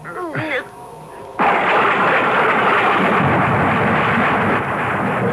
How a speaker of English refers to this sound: I was literally galvanized awake by a bolt of lightning which must have hit the tree. It was dark, and the thunder continued to grumble menacingly, so with what wits were left to me, I fled the dream and the storm and ran pell-mell for home.